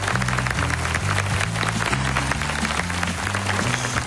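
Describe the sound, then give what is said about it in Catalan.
Loud, steady applause from a crowd for the three gentlemen representing Tacañón del Todo, Profesor Lápiz, Don Estrecho and Don Rácano: a dense crackle of many clapping hands, with a low stepping bass line of music playing underneath throughout. “Para ellos un fuerte aplauso.”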